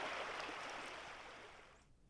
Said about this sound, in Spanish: Escuchando al río Huatulco. El río Huatulco tiene muchas voces e historias infinitas. El agua conversa con las piedras, borboteando y chorreando, siempre corriendo hacia el océano.